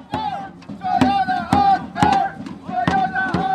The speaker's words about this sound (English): Dressed in purple and gold, about 100 workers marched up and down Hollywood Boulevard, blocking traffic while they chanted and banged on drums.